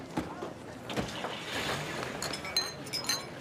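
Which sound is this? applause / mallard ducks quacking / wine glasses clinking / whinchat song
wine glasses clinking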